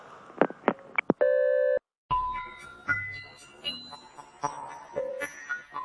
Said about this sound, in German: Wenn Sie wichtige Fragen haben, hinterlassen Sie nach dem Piepton eine Nachricht.